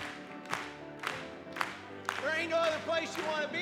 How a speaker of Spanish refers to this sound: Vamos a aplaudir una vez más.